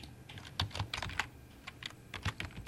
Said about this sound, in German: Seine Finger huschen über die Tastatur.